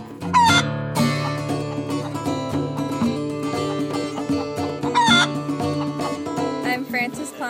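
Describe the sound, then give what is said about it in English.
A rooster crows twice, early and again near the end, with backyard chickens clucking, all woven into a steady, full instrumental music backing that plays throughout at a fairly loud level. “I'm a backyard chicken farmer and a songwriter, and a few of my chickens have made it onto tape.”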